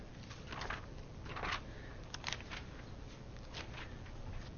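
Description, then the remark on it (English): Soft, crisp rustling of Bible pages being turned to the book of 1 Samuel, an irregular scatter of brief papery swishes and flutters over a low steady hum, with no one speaking. “I like hearing the pages of your Bible rustling.”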